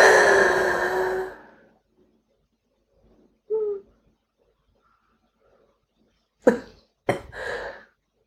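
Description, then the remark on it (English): A long, raspy throat-clearing sound opens, followed after a pause by a short low grunt, then two sharp, loud coughs in quick succession. No talking. “Clear the energy in your throat.”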